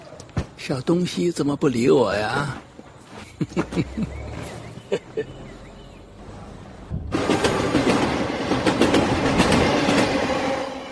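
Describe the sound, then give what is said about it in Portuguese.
A train rumbles along the rails with a steady, rhythmic clatter that grows louder and fuller toward the end, after a stretch where voices speak over quieter background noise. “Os dois partem no trem para o sul da China, iniciando uma viagem cheia de aventuras.”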